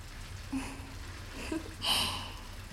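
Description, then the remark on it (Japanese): Soft, wet squishing of lather as a bar of handmade herbal-oil soap is turned round and worked into fluffy foam between hands, quiet, with a brief brighter squelch near the end and a low steady background hum. “くるくると石鹸を回して、くるくる、ふんわりとした泡が立ってまいりました。”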